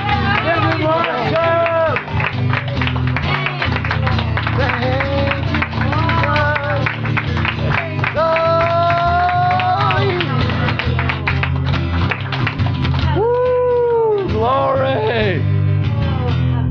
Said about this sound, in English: Hallelujah. Hallelujah. Give me a clap of praise.